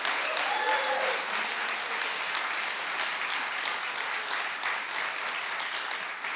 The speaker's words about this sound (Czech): Já jim moc děkuju, pojďme jim zatleskat tady všichni.